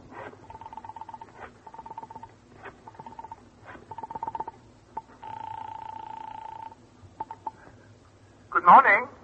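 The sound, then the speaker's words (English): A telephone is picked up and dialed: a run of short, evenly spaced beeps, a longer steady tone, a few faint clicks, then a brief louder burst right at the end. “You quickly reach for the phone.”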